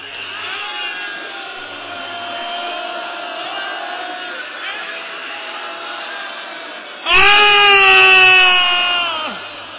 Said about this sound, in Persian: های های های های های های آثار گریه. حق داری، حق داری والا، هنوز هلال ماه محرم نیومده بیرون. های های این الان اینطوری گریه میکنی، هنوز غروب نشده، وای به فردا.